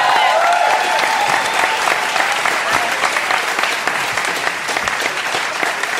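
Steady, dense audience applause, many hands clapping at once in a continuous loud wash that holds for several seconds, with a faint voice or two mixed in at the start.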